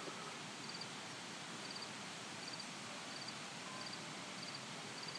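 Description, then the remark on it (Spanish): A steady, even rush of a river flowing on a mountainside above Vera de Bidasoa fills the scene from start to finish, with faint, regularly spaced chirps of a lone cricket riding on top. No one speaks. “Y al otro lado el río.”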